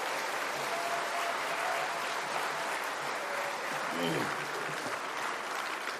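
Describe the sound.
Sustained audience applause welcoming a pastor as he comes forward to preach, a dense even patter of many hands clapping steadily for about six seconds, with a brief murmur of voices rising beneath it partway through.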